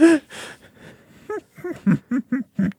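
A loud, dramatic gasp drawn in sharply twice, followed by a run of short, rhythmic breathy vocal bursts, like shaky panting, close up and with no talking.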